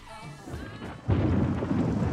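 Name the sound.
thunderstorm with rolling thunder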